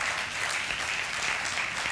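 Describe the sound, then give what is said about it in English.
An audience at a sermon applauds steadily, a dense, even wash of many hands clapping at once that holds at the same moderate loudness for the whole stretch, with no voices. “Go ahead and clap.”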